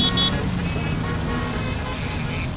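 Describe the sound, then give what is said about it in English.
Dense, loud roadway traffic rumbles steadily throughout, with a brief car horn toot near the start sounding over the continuous wash of passing vehicles. “See, it's hard to hear anything over that obnoxious traffic, isn't it?”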